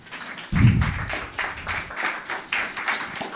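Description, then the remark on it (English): A conference audience applauds a speaker before a talk on reaching the German government via Matrix, with dense, continuous clapping that stays steady for a few seconds, opening with a low thump, with no talking over it. “Please give her a wonderful round of applause.”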